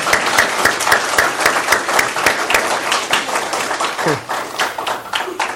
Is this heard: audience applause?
yes